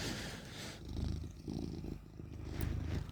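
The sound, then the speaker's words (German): A male cat purrs steadily, a low rumbling vibration pulsing in an even rhythm throughout, with no voices present. “Oh, ich höre den Kater.”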